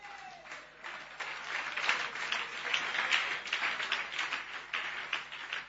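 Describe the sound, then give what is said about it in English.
A crowd applauds steadily at a preaching service, many hands clapping in a dense, continuous patter that swells slightly and holds at a fairly loud level throughout, welcoming a singer to perform a song. “Oh, clap your hands”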